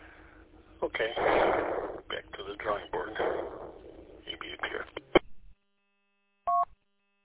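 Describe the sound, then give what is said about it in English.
Tinny, band-limited radio transmission with muffled voices of somebody talking numbers and sharp clicks, then a brief silence and a single short electronic chirp of paired tones, clear and moderately loud. “I was sitting there staring at my phone, and all of a sudden the radio started chirping off with somebody talking numbers.”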